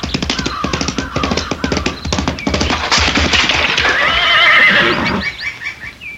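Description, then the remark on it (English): Rapid hoofbeats pound at a gallop as a rider spurs the horse toward a high stone wall, then the horse lets out a loud, drawn-out whinny that rises and trails off, with a few faint squeals at the end. “Before I could move, she clapped spur to a horse and headed for a high stone wall.”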